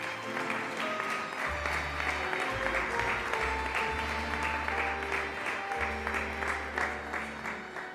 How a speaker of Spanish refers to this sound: Aplauso para Jimena Pérez Arbelo.